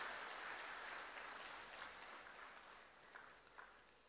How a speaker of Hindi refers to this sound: और आज हम सभी ब्राह्मण दिल की गहराई से आपके स्वागत सत्कार में तालियों का गुंजन करके वायुमंडल को परिवर्तन कर देते हैं, परिवर्तन कर देते हैं।